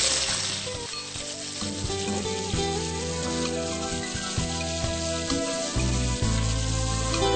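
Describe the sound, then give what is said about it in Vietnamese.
Steady, dense sizzling of shiitake mushrooms frying in a hot pan for a bún Huế noodle soup broth, with crackling pops and occasional scraping of a utensil, fairly loud throughout, no talking. “Con chiên nấm đông cô giúp mẹ đi.”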